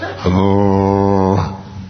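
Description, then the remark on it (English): A low, brassy tuba drone sounds loudly and steadily for just over a second during a sermon, then cuts off, with no talking over it. “can we kill the tuba, please?”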